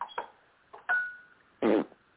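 A fart: a couple of short sputtering bursts, then a thin, high squeaky stretch, followed by one loud, low, raspy blast that fades quickly. No one speaks.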